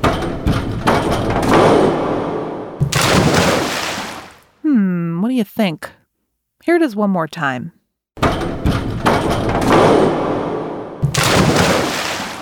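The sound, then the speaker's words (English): A diver bounces on a diving board with loud, rattling thumps that give way to a big crashing splash into a pool. The sequence plays twice, with a person talking between. “The sound you heard was a diver bouncing on a diving board before splashing into a pool.”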